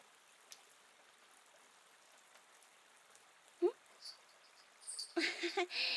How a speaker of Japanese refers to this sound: キツネの嫁入りか。ん？おお、今のように日が差しているときに降る雨をキツネの嫁入りと。 というのじゃ。雨だれの音と日の光が何とも心地よいな。